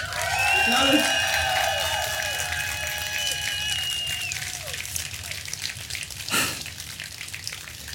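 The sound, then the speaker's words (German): Sustained applause from a live audience at the pre-opening of CSD Leipzig 2023 on Leipzig's Augustusplatz: a dense, steady crackle of clapping with whistle-like tones over the first half and one brief louder burst near the end. “Und jetzt hört ihr den Applaus unseres wunderbaren Live-Publikums.”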